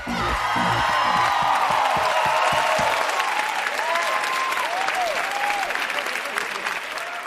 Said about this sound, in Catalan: I més aplaudiments, perquè l'Os 40 on Tour arriba a Calella.